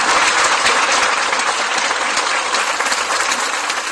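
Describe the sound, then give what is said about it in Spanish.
Neighbours gathered outside the bakery of Mónica Marcos, 52, in the Birloque district of A Coruña, Spain, applaud to condemn her murder: a dense, continuous patter of many hands clapping at once, loud and unbroken for the whole stretch with no voices standing out. “Le dedicaban este aplauso.”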